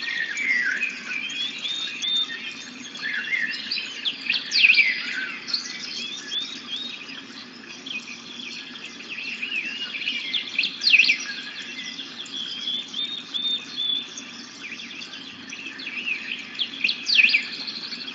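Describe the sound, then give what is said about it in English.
A dense chorus of many birds chirping and singing at once, overlapping calls and trills of varying pitch continuing steadily throughout, with no voices present. “There's a lot of different birds in this recording, so you have the opportunity to hear a lot of different sounds.”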